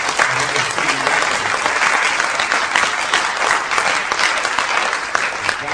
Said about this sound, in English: Let's applaud.